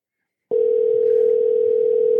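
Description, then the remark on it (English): A telephone line tone begins after a brief silence and holds as one steady, unbroken electronic pitch, like a single ring heard through the receiver, as a call is placed to a man in Canada. No one speaks. “One ring.”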